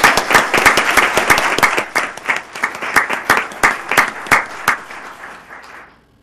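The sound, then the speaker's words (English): An audience breaks into applause for a woman's retirement, dense and steady for about two seconds, then thinning into scattered individual claps before fading out. No voices are heard. “And would it be appropriate for us to give her a round of applause on her retirement?”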